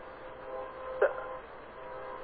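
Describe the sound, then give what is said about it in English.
A train passing in the background of a phone call: a steady, muffled rumble fills the line, with a short tonal horn-like blast midway. No one speaks. “So, someone, are you driving by where a train is going by or something? I can hear your traffic.”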